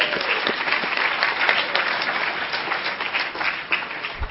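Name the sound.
round of applause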